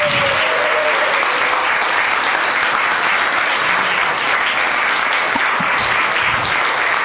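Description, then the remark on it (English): Sustained audience applause for the SALT staff, a dense wash of many hands clapping at a steady loud level for several seconds without pause or voices. “I do want to, and I don't feel like any of our staff is in the room, but I want you to actually join us in applauding the SALT staff.”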